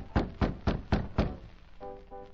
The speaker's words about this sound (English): Jimmy Edmonds opened his office door in response to Allen's knock.